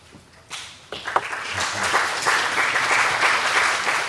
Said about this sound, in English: You're the only one that got applause